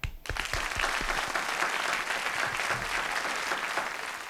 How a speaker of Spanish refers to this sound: Yo te voy a dar un aplauso por eso.